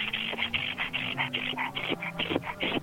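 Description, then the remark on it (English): A voice imitates a woman breathing heavily: about ten quick, rhythmic panting breaths, fairly loud, with no talking around them. “Just drive the car, she told him, breathing heavily like this.”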